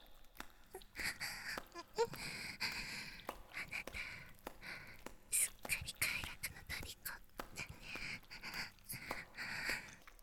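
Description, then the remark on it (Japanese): Heavy, breathy exhalations and soft moans right at the ear, arriving in uneven bursts with brief gaps between them. They sound hushed and airy, with no clear words. “耳にかかる熱い吐息と喘ぎ。”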